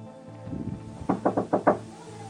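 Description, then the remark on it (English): An apartment door being smashed down by several people: five heavy, rapid thudding blows land in quick succession, loud, after a brief low rumble. “and they smash down the door.”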